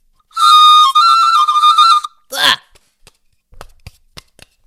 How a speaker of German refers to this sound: Es ist Montag, es ist 6 Uhr früh. Der Wecker von Frandobert Schraubenmeister geht an.